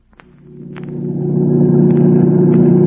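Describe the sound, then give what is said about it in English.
A car engine roars as it drives fast on the road at 90 with the accelerator only halfway to the floor, its low, steady drone swelling louder over a few seconds, with a handful of faint clicks over the continuous rumble. “Look, we're doing 90, and I only have it halfway to the floor.”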